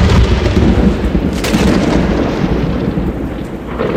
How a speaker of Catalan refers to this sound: Només hi ha una cosa que l'espanti. L'únic que li fa por són els llamps i els trons.